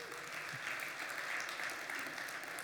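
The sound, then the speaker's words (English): A church audience applauds steadily to welcome a new worship director, a dense patter of many hands clapping together at once, sustained and fairly even in loudness, with no speech over it. “So she's not here, but let's give a round of applause anyways.”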